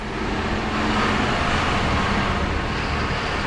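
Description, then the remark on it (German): John Deere tractors rumble steadily as they are driven onto a roll-on roll-off special ship that holds 140 agricultural machines, a continuous loud engine drone with broad mechanical noise and no voices. “Hier werden gerade Traktoren des Landmaschinenherstellers John Deere, der in Mannheim ein großes Werk hat, auf ein Spezialschiff gefahren.”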